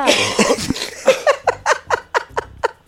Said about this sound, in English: Why did you cough like that?